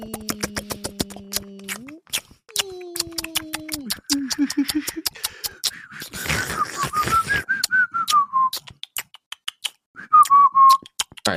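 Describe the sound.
A voice imitates the clicks and whistles with which the Ebens greeted astronauts: a rapid string of sharp clicks and wavering whistles, gliding and warbling in pitch, with breathy bursts and loud, tongue-clicking pops throughout.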